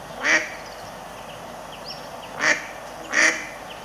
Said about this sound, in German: Aber die quaken genau wie die Stockenten. Und das machen wir jetzt mal vor. Oh. ist so gut, das kennt man so gut, ne? Dieses Geräusch. Kennt man richtig gut.